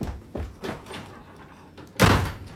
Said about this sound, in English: I wish you wouldn't slam the door like that.